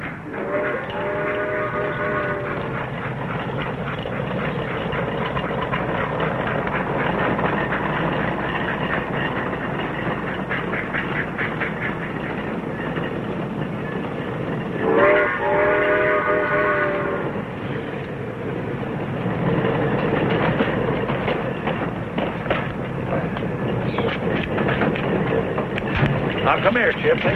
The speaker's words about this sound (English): Chip, we're here to meet a train, not to catch one, and leave Tramp right here.